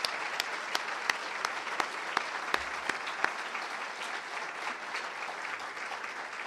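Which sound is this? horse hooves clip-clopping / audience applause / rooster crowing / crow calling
audience applause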